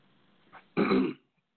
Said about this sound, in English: Let me clear my throat.